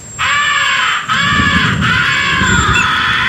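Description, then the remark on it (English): A hand-blown crow call gives a harsh, raspy fighting call: loud, chesty caws run together in nearly continuous drawn-out blasts with brief breaks, imitating an agitated crow. No one speaks. “The third essential call is the fighting call. Make it sound tough and chesty.”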